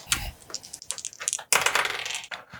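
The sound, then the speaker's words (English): Dice clatter and rattle across a hard table surface in a quick series of clicks and tumbling bounces, rolled for an alertness roll in a tabletop game, with no voices over the sound. “Can I get an alertness roll”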